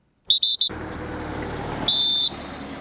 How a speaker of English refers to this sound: Cameroon troops whistle to indicate it is time for departure as about 3,000 Nigerians prepare to return to the village of Kukawa in Borno State.